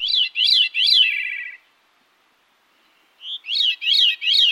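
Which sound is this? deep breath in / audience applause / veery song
veery song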